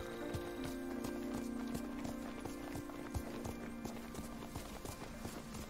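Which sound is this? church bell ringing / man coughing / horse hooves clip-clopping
horse hooves clip-clopping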